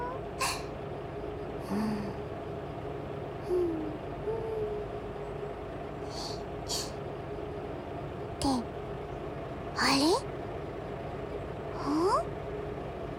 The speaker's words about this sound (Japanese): アイドリング音、トラコの耳にはどう聞いてもディーゼルエンジンのものにしか。モーターカーなのにディーゼルエンジン音が聞こえるなんて。